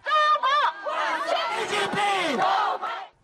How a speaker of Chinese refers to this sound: 在会场外围的一处场所，同时聚集着欢迎习近平访美和抗议的人群。欢迎人群挥舞着中美两国国旗，叫着中国万岁的口号。